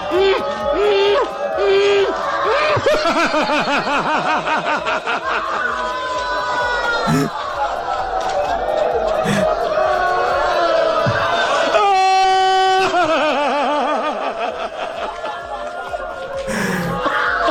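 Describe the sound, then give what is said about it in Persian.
A man wails and sobs loudly into a microphone at a mourning ceremony, in long, wavering cries that sometimes break into laugh-like gasps, with a crowd murmuring underneath and a sharp high tone near the end. “بله یه جاهایی از گریه این ناجاقا شبیه خنده بود، یه جاهایش هم دیگه خیلی گریه بود خدا وکیلی.”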